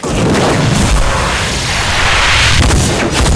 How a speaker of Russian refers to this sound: Я выстрелю биологической жидкостью из глаз. Я называю это разрывающее воздушное пространство глаза. Получай, Джозеф!